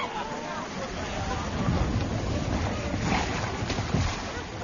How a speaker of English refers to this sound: And now, it is time to go down to the jetty. The boats will be coming in.